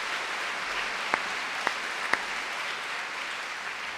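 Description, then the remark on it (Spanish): An audience applauds the Lord loudly and steadily, a dense wash of many hands clapping that fills the whole stretch, with a few sharper individual claps standing out and no one talking. “Adiós, dale un aplauso bien fuerte al Señor por eso.”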